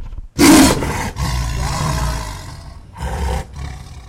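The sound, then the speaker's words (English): A tiger lets out a loud roar: a sudden explosive burst followed by rumbling, growling continuations, ending with a second shorter roar near the end. No one speaks. “If you just jumped, imagine how we felt.”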